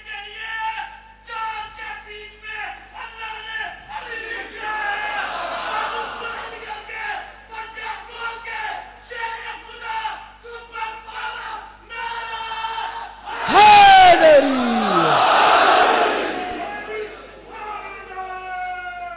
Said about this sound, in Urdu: وہ ہمارے دوست جو کھڑے ہو کے نعرے لگاتے ہیں آج کس مسا رہے ہیں, اس لیے کہ میں نے اپنے ٹیون کو ڈاؤن کر دیا ہے نا.